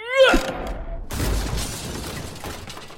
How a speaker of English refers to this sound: No sooner had it landed on its painted glass face with a smash than a swiftly moving bus happened by, making short work of the stupid plastic glass box. Gold coins ran freely down High Holborn.